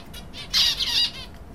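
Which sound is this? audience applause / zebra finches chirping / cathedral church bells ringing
zebra finches chirping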